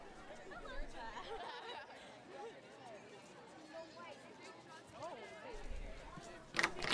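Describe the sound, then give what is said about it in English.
A steady hubbub of many overlapping voices fills a campus quad, continuous chatter at moderate level with no single speaker standing out, and a brief louder clatter near the end. “Forgot we're in the middle of the quad.”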